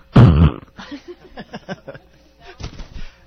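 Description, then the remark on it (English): A short, loud, wet raspberry blown with the lips into a person's face, a buzzy spluttering burst lasting about half a second, followed by people talking and laughing softly. “So, you consent to … spit farting in your face?”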